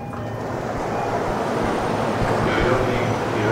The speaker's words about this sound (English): And what we're going to do now is get off at this station and wait for the next train, which should be following this one pretty quickly. Another one pulling in on the other side.